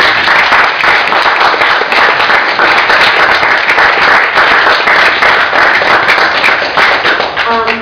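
An audience at a public testimony session on selecting the next Alameda County district attorney applauds loudly and steadily, dense overlapping claps sustained for several seconds without letting up, with a faint tonal sound appearing briefly near the end.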